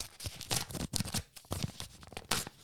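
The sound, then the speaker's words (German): Crisp paper tearing and crinkling in a quick series of rough bursts as a small paper envelope is ripped open by hand, with no voices. “Ich habe den Umschlag schon in der Hand. Es ist ein kleiner Umschlag wieder mal und ich mache ein Geräusch.”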